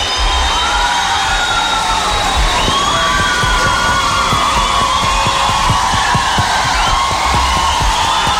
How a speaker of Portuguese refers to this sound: Entre os padres, quero saudar com muita alegria Padre Reginaldo Manzotti. Vamos acolhê-lo com uma salva de palmas.